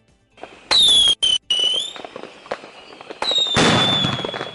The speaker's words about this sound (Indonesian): Meskipun tetap ada kembang api dan petasan di Seoul, Korea Selatan, Wellington, Selandia Baru, Sydney, Australia, atau Ottawa, Kanada